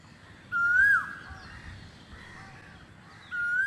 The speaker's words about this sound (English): But the only sound I hear back is the koel bird cooing in the breaking dawn.